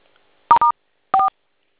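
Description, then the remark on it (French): Three short, clear telephone keypad beeps dialing a star code: two quick dual-tone presses back to back, a brief pause, then a third. Fairly loud, with no voices. “Oui, étoile 7. 7, 7, étoile 7, ça. Oui, étoile 4.”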